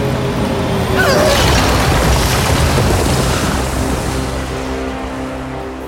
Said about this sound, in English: I make no judgment, Commander, but do beware of the crashing spacecraft!